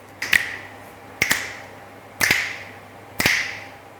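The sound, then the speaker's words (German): Four crisp finger snaps at a steady, roughly one-second pace, each a sharp click with a brief bright ring, against a quiet background with no talking. “Okay, also ich schnipp's an.”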